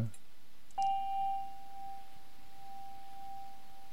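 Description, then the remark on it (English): A single Tibetan bell is struck once, ringing out with a clear, pure tone that hangs and slowly fades over several seconds. “Not sure what she's going to grab here. The Tibetan bell you're getting.”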